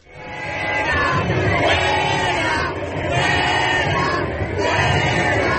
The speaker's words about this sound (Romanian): Mesajul paradelor gay este de obicei incluziunea, dar la Madrid, la sfârșitul săptămânii, s-a scandat și fuera sau afară, la adresa reprezentanților noilor partide populiste de dreapta, Ciudadanos și Vox, considerate vinovate de încurajarea retoricii